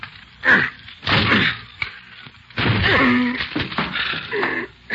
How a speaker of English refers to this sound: Okay, give me a chair. I'll break this door down for you.